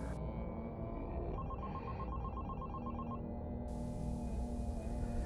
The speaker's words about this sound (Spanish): Un martes de diciembre, del diciembre pasado, cerca de Navidad, el teléfono sonó, pero esta vez sonó diferente.